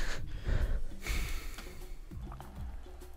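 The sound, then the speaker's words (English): Someone who has just been choked gasps for breath in a few ragged, heavy pulls of air, breathy and strained, with rough throaty edges between inhales and no speech. “And …, gasping for breath.”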